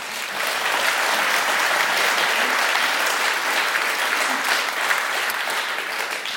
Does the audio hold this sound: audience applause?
yes